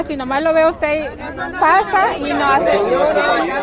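Several voices shout over one another at once, loud and close, forming a continuous, agitated jumble of raised voices from a small group with no single speaker standing out.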